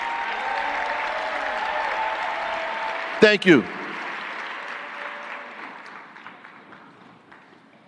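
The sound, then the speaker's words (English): Sustained audience applause for the city's violence prevention workers and community partners, including the Office of Violence Prevention and Brick City Peace Collective: a dense steady clatter of many hands clapping, with a brief voice cutting in midway before the clapping gradually thins and fades out. “I just want you to see the people that do the actual work in our city and give you an opportunity to give them a round of applause.”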